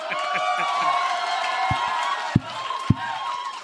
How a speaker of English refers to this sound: We haven't done anything. Stop clapping.